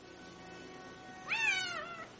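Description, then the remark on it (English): A single cat named Cleo, wearing a collar with a tag, meows clearly, a drawn-out rising then falling cry lasting under a second, against a quiet background with no talking. “Nice kitty. Are you lost?”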